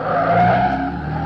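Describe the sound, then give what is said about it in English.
A car tears around a bend, turning onto Rosecrans, with a sustained high tire squeal over a loud engine roar, continuous for a moment before easing slightly. “He's turning onto Rosecrans. Take a left.”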